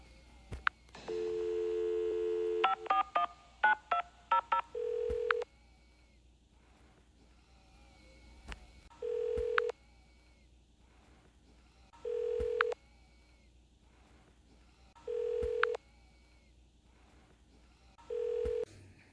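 A phone's steady dial tone gives way to a quick string of keypad beeps, followed by a regular ringback tone repeating about every three seconds, clear with no talking.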